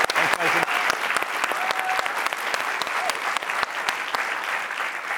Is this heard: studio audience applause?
yes